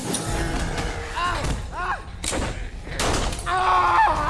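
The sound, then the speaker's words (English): A heavy door slams down with a loud, crunching impact amid rubble after the pipe prying it open is knocked away, the full weight of the door and rubble pressing down, followed by more thuds and rumbling debris in a noisy, chaotic scene. “The pipe we were using to pry open the door got knocked down, and the full weight of the door and all the rubble pressing on it, but there wasn't anything else between the door and my arm.”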